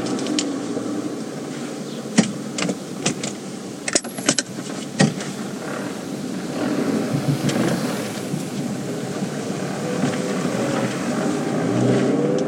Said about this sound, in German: Warum bremst du denn hier an der Fahrradstraße? Weil wir keine Vorfahrt haben.